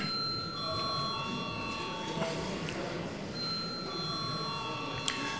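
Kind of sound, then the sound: signal or alarm, parliamentary voting bell ringing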